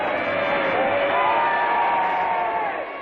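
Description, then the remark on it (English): A large crowd in Downing Street cheers and shouts, applauding Mr. Chamberlain, in a continuous, dense roar, many voices blending together at a steady loud level for the full few seconds, slightly muffled in tone. “Chamberlain acknowledged the applause that greeted him later in Downing Street, he cried to the crowds, it's all right this time.”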